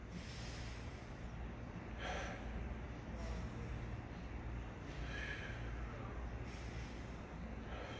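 Slow, deep breaths drawn in and let out as breathing practice, a couple of soft airy swells rising over a steady low hiss, fairly quiet, with no one speaking.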